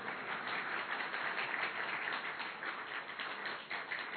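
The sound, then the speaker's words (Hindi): A crowd applauds steadily, a dense, even wash of many hands clapping at once with no pauses, holding a fairly constant loudness for about four seconds. “तालियां तो बजाओ जरा।”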